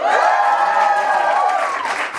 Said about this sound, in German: Ja, wir haben einen neuen Jingle. Ich liebe ihn. Gefällt er euch?